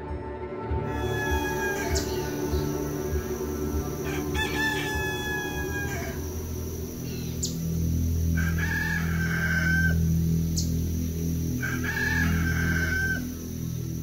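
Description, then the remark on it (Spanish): A rooster crows repeatedly at the start of a Sunday, its drawn-out calls rising and falling in clear harmonic bursts, set against a steady low rumble of background noise. No one speaks. “El canto del gallo indicaba que ya era domingo y que Dana aún no aparecía.”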